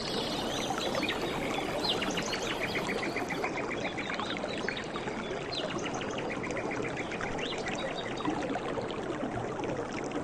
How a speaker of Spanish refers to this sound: Pues como a mí, seguramente te gustaría estar ahí, meter los pies en el agua, respirar fuerte, expirar el aire puro del bosque, escuchar el río, los animales.